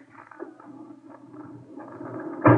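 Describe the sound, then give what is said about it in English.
A metal morgue drawer holding a body at the city morgue rolls out with a steady, rattling low rumble for a couple of seconds, then stops with a loud clunk at the end. “The setting for the sentimental reunion was the city morgue. Roll him out, Ernie.”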